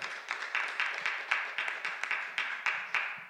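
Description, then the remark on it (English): A church audience claps together in a fairly quiet, steady wash of hand claps, with a loose rhythmic pulse of sharper claps about three or four times a second and no voices. “Yeah, you can clap. That's good.”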